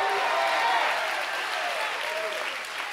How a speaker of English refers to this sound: One more time, if you receive that, clap your hands, all ye people. Shout unto God.